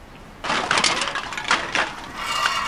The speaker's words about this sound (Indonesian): Malah sekarang pakai nabrak tong sampah segala. Bikin malu.